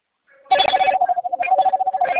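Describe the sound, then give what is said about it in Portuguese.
A telephone rings with a loud, continuous trilling ring at a steady mid pitch, rattling rapidly without pause after a brief faint start. No one speaks. “Atende não, daqui a pouco você atende.”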